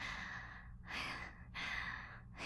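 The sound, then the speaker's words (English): Fast, heavy breathing in quick repeated breaths, each a broad airy rush of about half a second to a second, coming in a steady rhythm with no talking. “Your breathing's just as fast as mine.”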